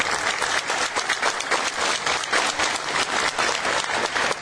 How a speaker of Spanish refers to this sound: Un aplauso.